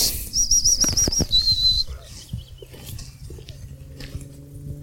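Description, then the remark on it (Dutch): A yellowhammer calls from the right with a quick run of thin, high-pitched notes followed by a brief slightly lower phrase, then quiet rustling and faint low background noise with no talking. “Ik hoor er een roepen. Tiek. Rechts van ons. Hoor je dat?”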